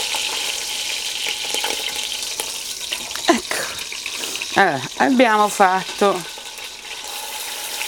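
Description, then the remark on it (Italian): Meat browns and sizzles steadily in an aluminium pot, a continuous crackling hiss that runs throughout, with a man speaking over it near the middle and a few clinks of utensils. “Una volta fatta con pazienza questa rosolatura da tutti i lati, con pazienza perché è anche l'unica cottura di questa carne, l'abbiamo rosolata, ora la saliamo”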